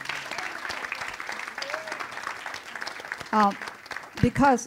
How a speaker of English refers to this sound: and now I think we can clap and just clap for that miracle. Just do that. Yeah. And this miracle. Amen.